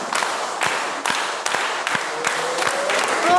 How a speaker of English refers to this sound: Oh, okay, he's done. Let's give Ben a round of applause.